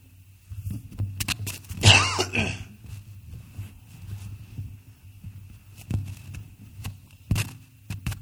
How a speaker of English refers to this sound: Sorry, I was trying not to cough in the mic and may have made more noise in the process.